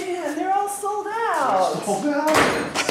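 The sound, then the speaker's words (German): The door of a women's workwear shop in White Sulphur Springs, Montana, opens as a couple enters and bangs shut near the end with a sharp thud, after a few seconds of indistinct voices talking. “Ein Paar kommt nach mir zur Tür herein.”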